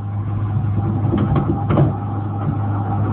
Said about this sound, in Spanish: Luego Calimán empuja suavemente la puerta.